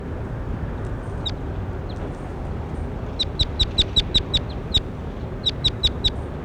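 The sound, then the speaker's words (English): A bird gives a rapid series of short, high-pitched chirps, about a dozen sharp notes in quick bursts, over a steady low rumble of background noise. “That was bird 21.”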